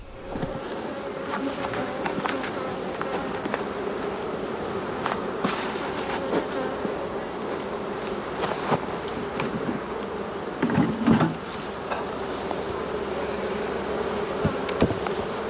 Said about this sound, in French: ses abeilles du rucher de Vitry-en-Artois entre Arras et Douai.